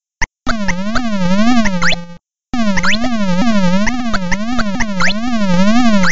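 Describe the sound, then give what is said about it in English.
A loud electronic video game sound effect, made by snakes crossing a little log between two platforms: a buzzy, harmonic tone warbling rapidly up and down in a zigzag pattern, breaking off briefly after two seconds before resuming steadily. “There's a sound that the snakes make when they're traversing between the two platforms that they're on, when they're actually going on the little log.”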